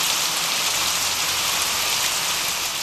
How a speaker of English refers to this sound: Toro. A word signifying rainstorm. This word is the sound of its meaning, water pouring down.